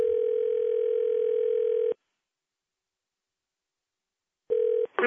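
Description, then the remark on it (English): A steady electronic ringback tone as a call is placed to comic Wild Bill Dykes's cell phone in New Orleans at Mardi Gras: about two seconds on, a long silent pause, then the tone starts again and is cut short. No one speaks. “He said he might be a little crispy, but we should try him on his cell anyways.”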